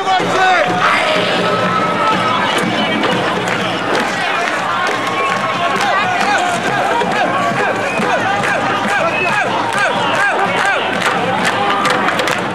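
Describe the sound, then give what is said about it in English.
A dense, agitated protest crowd shouts and yells continuously, many voices overlapping with sharp cries rising out of the roar, as the front lines pick up what is left of a banner and charge. “With a three count, the front lines picked up what was left of the banner and charged.”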